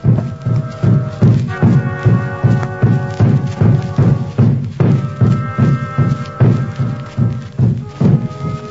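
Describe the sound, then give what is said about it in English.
Steady, rhythmic hoofbeats of two horses walking, thudding in an even clip-clop pattern that continues throughout, with a low rumbling hum underneath and no talking. “Have to leave these two horses here, Sergeant.”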